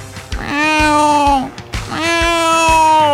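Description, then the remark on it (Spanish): Two long, drawn-out cat meows, each lasting about a second, loud, with a faint rhythmic thumping beneath them. “No manches, había un gato, güey. ¡Un gato!”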